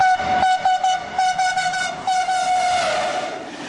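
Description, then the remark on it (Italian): A loud train horn blares in one long, steady note over the heavy rumble of a passing train, with rhythmic pulses from the cars rolling by. “Non ho sentito nessuna tromba del treno.”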